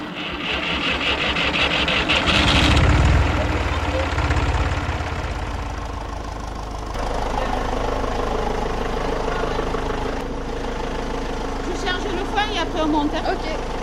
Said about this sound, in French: Je vais démarrer le tracteur, on montera aux bisons.